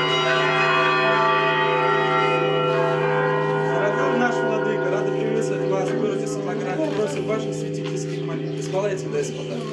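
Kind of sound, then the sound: signal or alarm, church bells pealing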